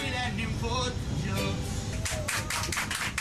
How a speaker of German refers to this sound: Irritierte Blicke von den Mitreisenden, dann Applaus.